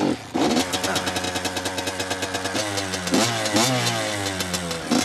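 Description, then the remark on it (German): A motorcycle engine starts up and revs repeatedly, its pitch rising and falling in rough pulses before settling into a steady idle, as it is taken for a test ride to the corner and back; no one speaks. “Ich fahre schon Motorrad, solange ich lebe.”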